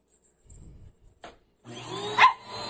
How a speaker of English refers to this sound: Oh, what's going on here? Oh. Hey, Parker, you're going to watch Daddy vacuum? Oh, no. Daddy's got a vacuum.